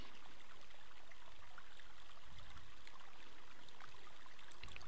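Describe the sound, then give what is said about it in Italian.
A gently flowing stream babbles and trickles steadily throughout, with soft splashes rising here and there; the water sounds fairly quiet, with no voices. “Se i tuoi pensieri si fermano, osserva il ruscello.”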